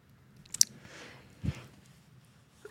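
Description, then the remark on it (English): A soft, muffled sneeze on the first day of winter: a small click, then a breathy hiss that ends in one short, stifled burst. No one is talking, and the sound is fairly quiet. “Bless you.”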